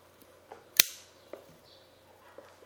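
A Zippo lighter, refilled with fuel the day before after more than a year unused, clicks open and is struck once with a sharp, ringing snap, followed by a few lighter clicks. Fairly quiet, with no talking.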